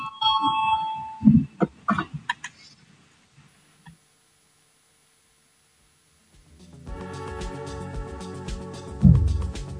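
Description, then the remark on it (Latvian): After a few brief clicks and murmurs followed by a quiet pause, the loud, steady electric voting bell of the Latvian Saeima (parliament) starts ringing continuously for a vote on proposal 41, with a harsh, buzzing metallic tone through the end. “Lūdzu zvanu, balsosim par 41. atbildīgās komisijas iesniegto priekšlikumu.”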